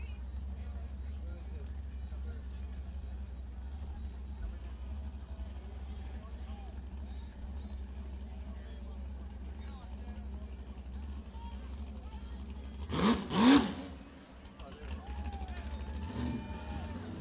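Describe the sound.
A sport fishing boat engine, an old-fashioned lake jet boat in the Morro Bay Boat Parade, idles with a steady low rumble, then briefly surges louder around the middle before settling back, with faint background voices and ambient noise throughout.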